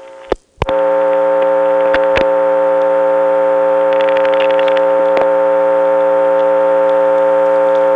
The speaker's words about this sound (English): This is the register, a piece of equipment which has to time out. It has some crosstalk, so let's listen. We're hearing that click-click sound a lot, which is roughly the same timing as someone picking up the phone and then getting dial tone.